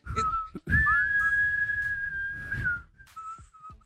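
person whistling a tune

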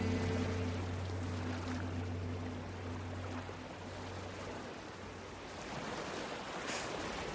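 ocean waves

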